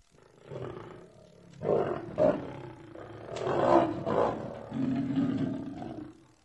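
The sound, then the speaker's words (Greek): A large lion with a huge reddish mane roars several times in deep, rumbling bursts that swell and fade, loud, with a sustained growling roar near the end and no voices. “Ήτανε μια φορά ένα λιοντάρι με μια τεράστια κοκκινοπή χέτη.”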